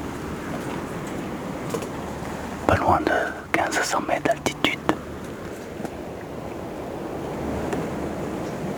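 Wind gusts rush steadily across a plateau, a constant breathy roar with a burst of buffeting and crackling midway through, suggesting wind hitting the microphone.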